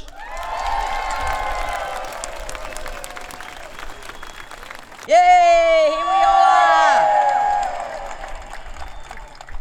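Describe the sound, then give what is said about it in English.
A large ASU union rally crowd of Melbourne metropolitan council workers, rallying for better wages and conditions, applauds and cheers steadily, with scattered voices in the mix; midway a loud amplified voice rings out over the clapping for a couple of seconds before the cheering carries on. “Proud am I to see such a crowd.”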